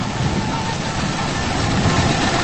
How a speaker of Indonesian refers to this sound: Suara hujan di luar sana menghantam asbes yang menjadi atap bangunan ini. Meskipun suara musik diputar, tetap saja kalah dengan suara hujan yang cukup besar di luar sana, atau bahkan tertutup dengan suara mesin jahit.